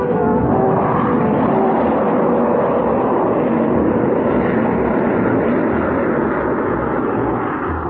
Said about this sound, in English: little more than an hour after Jet had spoken to Frank, the huge freighter passed overhead